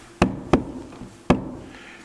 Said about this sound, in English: a deep sea diver who was doing everything he could to find a way for the crew's release thought he heard some tapping on the side of the hull. And he came up against the ship and put his helmet there. And he heard this tapping.